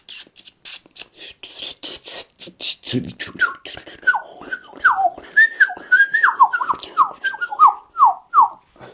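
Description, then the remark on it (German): A person whistles an imitation of a blackcap's song: a scratchy, hissing warble at first, then a run of clear, loud, rapid descending whistled notes, alone without talk. “Also die Grasmücke, die Mönchsgrasmücke, die fängt an mit so einem.”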